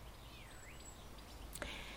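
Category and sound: bird, birds singing outdoors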